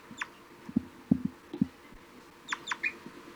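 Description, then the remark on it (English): An adult bird gives a few short, sharp "toop" flight calls, one early and a quick pair near the end, over soft low thumps and faint background noise. “It's 4-3 giving a flight call.”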